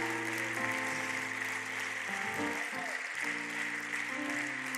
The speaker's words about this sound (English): If you agree that Jesus has the final say, clap your hands one more time.